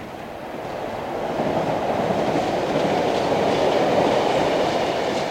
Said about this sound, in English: Officials in California are hoping to make the sound of an ordinary train obsolete.